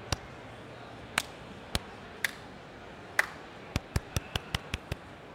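A dozen sharp hand claps on a quiet background, spaced loosely at first and then quickening into a rapid, even run of crisp claps at the end, made just before a recording starts.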